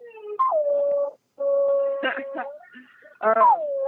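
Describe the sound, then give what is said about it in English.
A pet dog howls in long, wavering tones, each howl sliding down in pitch and holding steady, with brief pauses between the drawn-out cries. “My dog was howling.”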